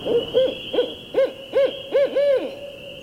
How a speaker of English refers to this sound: I'd paint in the lift for hours and hours, oblivious to the passing time, until the caterwauling calls of a barred owl, like a giant squeegee being dragged across a window, echoed through the lobby and interrupted my reverie.